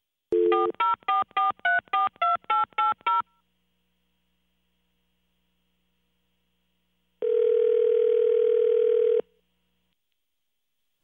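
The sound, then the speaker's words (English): A rapid run of about ten telephone keypad tones beeps out a number as someone calls a veterinarian's office, followed after a pause by a steady, loud dial tone lasting about two seconds. No voices. “You call the vet's office, you talk to whoever answers the phone, and you let them hear your grossly disgusting-sounding cat over the phone.”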